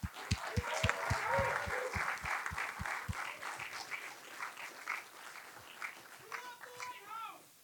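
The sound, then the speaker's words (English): A live event audience gives a massive round of applause for the hosting venue, loud and steady, with dense clapping and a few rhythmic thumps early on, then the clapping thins as scattered cheers and shouting voices rise near the end. “So can I get a massive round of applause for the Lighthouse for helping us out with this endeavor?”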